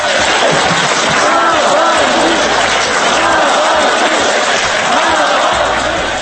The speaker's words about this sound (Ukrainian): На мітингу сьогодні ввечері на Болотній площі лунали вигуки десятки тисяч присутніх на підтримку Олексія Навального.